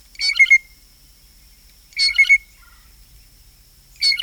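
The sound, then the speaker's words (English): A bird gives piping call notes in three short, bright bursts about two seconds apart, each a quick cluster of clear high notes, heard alone with a faint steady high tone beneath. “And as familiar as the typical call might be, these birds are immensely creative vocalists with a large vocabulary of other calls, including piping notes.”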